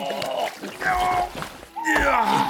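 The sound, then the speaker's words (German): Water splashes and sloshes in several bursts as someone who fell into a stream is helped out of it, with strained voices and grunting sounds layered over the movement. “Ich bin in den Bach gefallen. Warte, ich helfe dir raus.”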